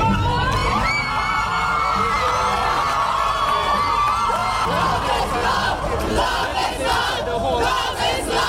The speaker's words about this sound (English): Crowds on the steps of the Hall of Justice in Port of Spain, the capital city of Trinidad and Tobago, erupted in cheers on learning that the High Court had struck down the Caribbean nation's archaic anti-gay sodomy statutes.